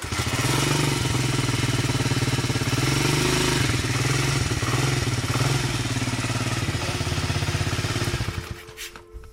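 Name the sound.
moped engine running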